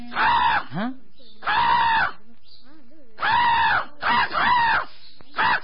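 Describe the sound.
A person loudly calls out to crows while setting out cooked rice for them, with harsh, drawn-out cries that imitate crow caws, repeated in about five closely spaced bursts with short pauses between them.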